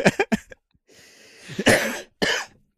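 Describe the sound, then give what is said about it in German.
A coughing fit brought on by laughing: a quick cluster of sharp coughs, then a raspy drawn-in breath and two more harsh, forceful coughs, with no talking. “Der Hustenreiz sonst ausgelöst wird.”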